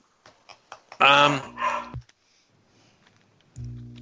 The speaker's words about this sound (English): barking at something.